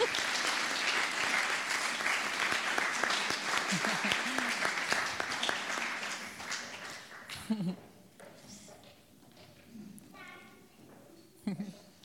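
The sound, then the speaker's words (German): An audience claps in a dense, steady burst of applause for people called to the front to share their experiences and pray. It lasts about seven seconds, then thins out and fades while a voice speaks over the last scattered claps. “So gebt ihnen nochmal herzlichen Applaus und kommt mal zu mir nach vorne.”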